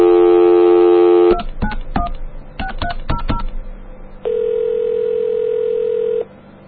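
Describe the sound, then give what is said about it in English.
A steady telephone dial tone gives way to a quick series of about eight touch-tone keypad beeps, followed by a long, even phone tone, dialing a free Quest DAX automated audio service. Clear, with no talking. “I have my phone in one hand and my penis in the other.”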